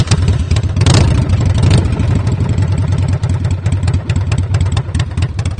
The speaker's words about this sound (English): That's how we express ourselves, making changes on the bike that makes it either more fuel efficient or perform the way we, the rider, want it to perform. And the sound of the bike is a big part of identity for many riders.